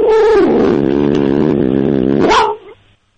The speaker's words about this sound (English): These meows. Let's hear them. All right. And now I'm not hurting her. She just meows. She's kind of crazy, so she meows and growls a lot. I'm not yanking on her tail. I'm just petting her.